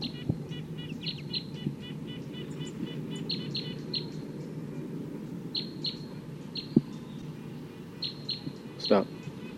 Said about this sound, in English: That's wild bird up there.